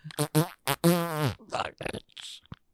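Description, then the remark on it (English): A rapid string of fart sounds: a few short blasts, one long drawn-out tone that sags in pitch, then a run of wet, sputtering bursts ending in a quick pop. “We've got farts.”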